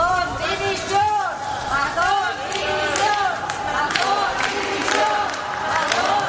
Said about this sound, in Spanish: Con estos gritos ha terminado hace unos minutos aquí en Valencia, en el centro de Valencia, el funeral por las víctimas de la Dana.